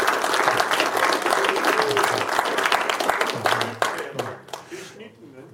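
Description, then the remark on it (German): An audience breaks into dense, sustained applause, many hands clapping loudly for several seconds before it thins out and fades toward the end. “Das hat auch einen Applaus verdient, dass man das nebenher alles noch schafft.”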